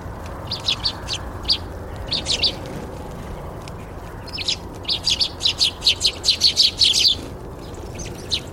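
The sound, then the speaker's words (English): Small garden birds such as sparrows, chaffinches, siskins, blue tits and great tits chirp and tweet in quick bright bursts as they hop about a lawn and fly to and from feeders, scattered at first then clustering into a busy run of calls, set against a soft outdoor hum with no talking. “The wee birds, the sparrows, chaffinches, siskins, blue tits, cold tits, great tits, that kind of thing, tend to colonise the lower stage.”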